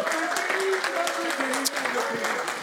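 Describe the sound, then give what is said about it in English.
A church audience claps hands steadily in a dense, continuous wash of applause, with voices calling out and singing over the clapping throughout. “Clap those hands, yes, hallelujah, come on.”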